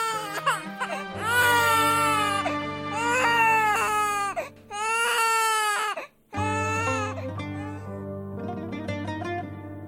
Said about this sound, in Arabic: كان كل خوفها على موتة جنينها فجمعت كل ما تبقى بجسمها النحيل اللي يرجف من قوة حتى تولد طفلها وتخلص من الموت المحتوم وفعلا ما سلمت الروح ولا استسلمت للموت إلى أن سمعت صرخ الطفل.